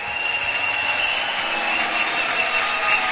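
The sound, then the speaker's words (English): A crowd gives the Lord a clap offering, clapping together in a dense, continuous wash of applause that holds steady at an even loudness throughout, with no voices standing out. “I said, give the Lord a clap offering.”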